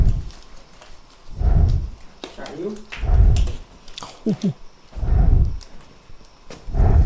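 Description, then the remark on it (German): A jaguar just sedated by researchers so they could fit it with a transmitter collar breathes heavily and slowly, with four deep, rumbling breaths at a steady rhythm and a few brief higher grunts between them. No one speaks. “Oh Gott, ist das ein schwer atmender Jaguar? Ja, habe ich selbst aufgenommen.”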